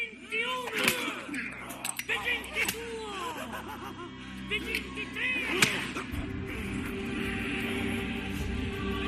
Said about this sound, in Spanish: Bueno, me refería a ese momento de los latigazos en el cine. Probablemente La Pasión de Mel Gibson ha sido la más dura, la más complicada de soportar. También los latigazos formaron parte del contenido de esa película.